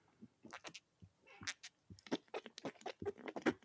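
Someone drinks a cola right into the microphone: a quick run of wet slurps, gulps and lip smacks in uneven bursts, fairly quiet, with no talking.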